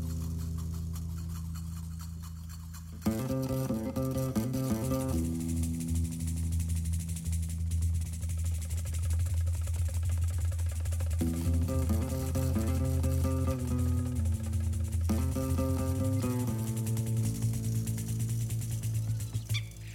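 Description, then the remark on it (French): Starlings sing in a dense, continuous stream of whistles, raspy chatter and warbling tones, shifting pitch every few seconds after a quieter, murmuring opening. “Ce sont des étourneaux, des chants d'étourneaux.”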